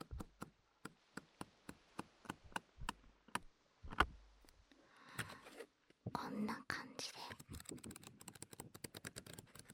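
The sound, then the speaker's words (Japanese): Handling of various kinds of paper: a steady run of crisp flicks and taps, then soft rustling, giving way to dense, crackly crinkling as sheets are crumpled and shuffled, quiet and intimate. “いろんな紙の音でした。”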